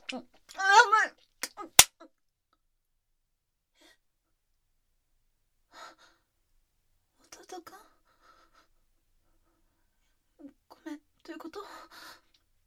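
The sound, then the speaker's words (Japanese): A single sharp, loud smack of a younger brother slapping his older sister's face cuts in right after a woman's drawn-out vocalizing, followed by a long quiet stretch and a few brief, soft bursts of speech. “弟くん今お姉ちゃんのことビンタしたの？”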